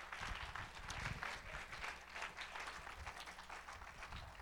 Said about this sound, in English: Can you clap your hands and bless God?